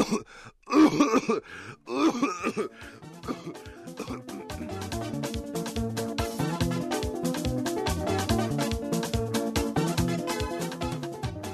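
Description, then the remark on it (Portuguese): Two rough, guttural bursts of throat clearing and coughing, from a cough that has lasted a week, then give way to steady rhythmic music that carries on to the end. “É só uma tosse. Já durou uma semana.”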